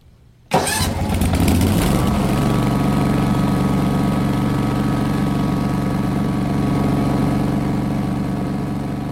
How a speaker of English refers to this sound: did you realize, Carl, that you can have that kind of profundity when you're mowing a meadow?